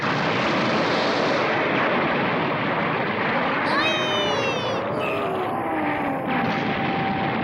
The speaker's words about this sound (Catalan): Tot vola i tremola i en Goku i en Jackie Chan tanquen els ulls enlluernats. Des de l'aire, en Shaos contempla inexpressiu l'enorme explosió.